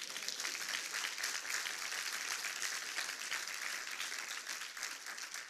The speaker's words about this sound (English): How many of you love Jesus? Amen. I was at my daughter's basketball game, and an orange basketball got better applause than that. I said, how many of you love Jesus?